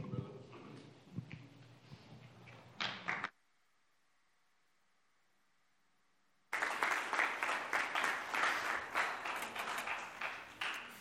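Loud, dense audience applause with many hands clapping at once, cut off abruptly by a few seconds of near-silence carrying a faint steady hum, then bursting back in just as loud.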